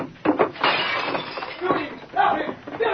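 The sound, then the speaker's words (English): The Lone Ranger fires a gunshot-like crack at the single glass light hanging from the ceiling of a cafe room, shattering it. Breaking glass crashes and clatters in several loud bursts over three seconds, with muffled voices mixed in. “At the same instant, the Lone Ranger fired at the single light in the room, which was hung from the ceiling.”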